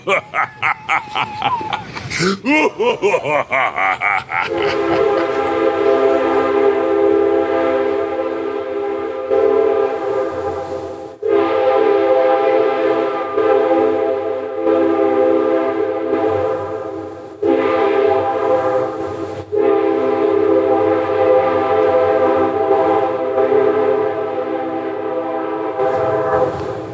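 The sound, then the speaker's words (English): A train horn blares in long, loud sustained blasts broken by a few brief pauses, over a low rumble of a train on the tracks, after a short sweeping tone at the start. “Before we take our last bite of the Big Apple, let's take a train ride.”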